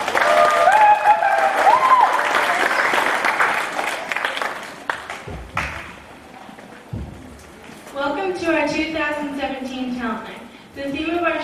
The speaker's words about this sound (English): So I'm going to turn it over to our hosts. Let's welcome them with a round of applause.